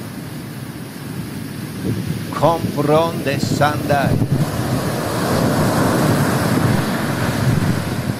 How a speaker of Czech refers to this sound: To je ono. Vlna za vlnou. Vanutí za vanutí.